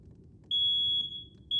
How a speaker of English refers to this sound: A loud, urgent alarm screeches through the house.